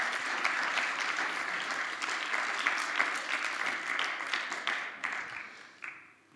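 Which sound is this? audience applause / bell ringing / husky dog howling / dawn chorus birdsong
audience applause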